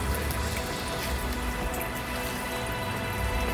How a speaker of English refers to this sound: Droplets like shimmering lights, I love it when it rains.